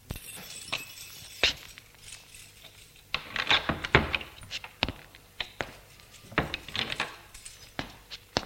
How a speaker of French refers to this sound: Comme il a les clés, il ouvre la porte d'entrée.